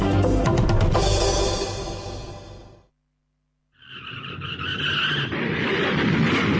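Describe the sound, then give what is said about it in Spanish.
A loud, rough burst of car noise with clattering impacts from a car crash cuts off into a moment of silence, then a sustained, high tire screech of a skidding car rises and holds loud until the end. “¿Cómo quedó el auto? Perdóname, fue mi culpa.”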